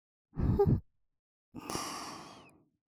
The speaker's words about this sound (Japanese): 頭の中を空っぽにして私のバイトあったかい吐息感じてください。